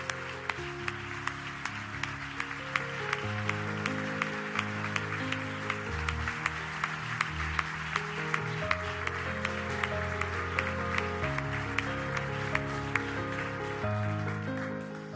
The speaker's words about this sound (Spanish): Señoras y señores, Pepe Domingo Castaño, un aplauso que llegará al cielo seguro.